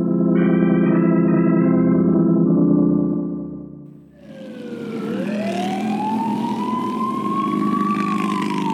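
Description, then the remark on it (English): A police siren wails loudly as police pursue a motorcycle rider, first as a steady harmonic tone, then sweeping up and down in long rising and falling arcs over a rushing engine and traffic noise. “That boy, now 17, and living once again with his mother, was riding his motorcycle when the police pursued him.”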